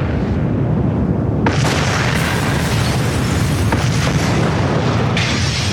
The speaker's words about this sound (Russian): Капитан заложил бомбы по всему кораблю!